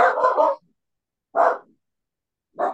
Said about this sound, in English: Is it your dog? Yeah. I thought it was mine. Yeah, I have a little dachshund next to bark.